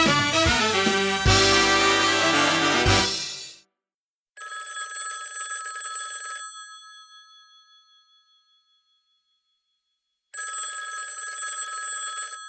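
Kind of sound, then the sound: signal or alarm, telephone bell ringing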